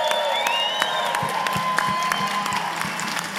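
An audience claps and cheers steadily, with a dense wash of hand claps punctuated by sharper individual claps and excited whoops rising over the crowd noise.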